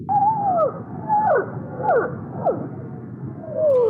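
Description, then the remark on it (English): Blue whale calls: a series of about five drawn-out, descending tonal moans, each sliding down in pitch, repeating every half second or so over a steady low rumbling background. “some blue whales there ending that report by Tom Melville.”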